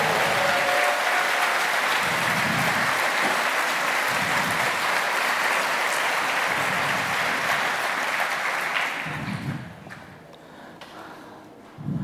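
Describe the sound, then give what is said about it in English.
A large audience claps steadily for the video and audio angels in all the rooms, in a dense, continuous wash of applause for about nine seconds, then it thins out and fades to a few scattered claps near the end. “Also, give a big hand of applause of all the video and audio angels in all the rooms.”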